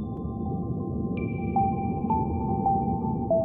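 Calm ambient music plays, with long sustained electronic tones and soft echoing pings over a low, steady wash of sound at a moderate, even volume.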